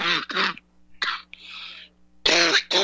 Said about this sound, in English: Isn't this ironic? I'm coughing up a storm.